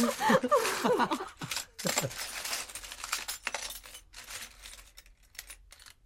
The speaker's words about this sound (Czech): Slyšeli jste, jak cinkali? Ano, ta truhlička byla plná zlatých dukátů.